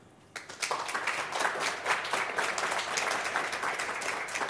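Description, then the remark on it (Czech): Applause from a small group in a radio studio, congratulating a successful mountaineering expedition, starts abruptly after a brief quiet moment, then carries on as steady, dense clapping at moderate volume. “V rádiu gratulujeme tak, aby to bylo slyšet, takže blahopřejeme potleskem.”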